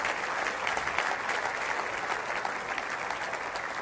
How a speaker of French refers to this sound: Et on va applaudir la grâce de Dieu.